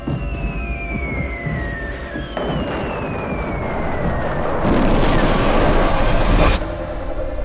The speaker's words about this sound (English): A huge explosion is on the way, so I'll take you to the third trumpet.